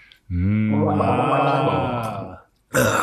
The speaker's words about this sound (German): Schlucken ist Liebe, gurgeln ist zu viel, oder wie?